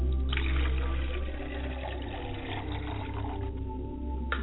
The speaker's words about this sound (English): As I wash my face with the water and wash my hands, then I pour water to the ground and say, Ashe, Ashe. And I pour libation to the west.